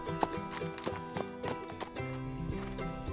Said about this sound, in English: He mounted his horse, then began a patient trot after his prey.